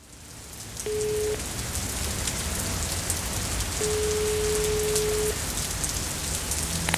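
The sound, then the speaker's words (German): Steady, dense rain pattering on a hard surface fills the whole recording, with two plain electronic tones sounding briefly over it, one short and one longer. “Ich stehe hier im Regen und warte seit über einer halben Stunde auf dich.”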